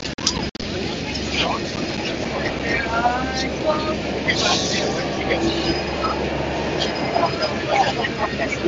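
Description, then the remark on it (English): A tram passes on the left, its steady low rumble mixed with rising electric whines and squeals, set against busy street noise and faint background voices. “Oh, the tram is passing on my left hand side.”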